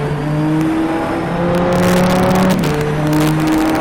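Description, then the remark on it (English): A loud race car engine revs steadily upward through the gears up to fifth, going under the Rolex Bridge and past the Michelin Tower, its pitch climbing and briefly dropping at each gear change, accelerating hard in a continuous roar. “All the way up to fifth gear, we're going to go ahead and swing it in from wide and bring it in real tight.”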